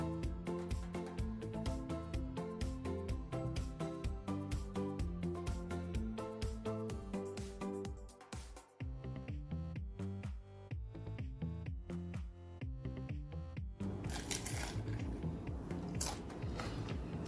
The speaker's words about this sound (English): Hear that crunch? That's what I'm talking about. Beautiful flavors going on here. It's nice and crunchy, which is just delicious.